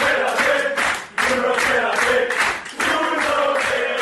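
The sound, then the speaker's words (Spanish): A group of teammates cheers and shouts loudly in the locker room of the Estadio de la Cerámica, with clapping mixed into the dense noise. It comes in three sustained surges, each separated by a brief dip. “Es el sonido de sus compañeros en el vestuario del Estadio de la Cerámica.”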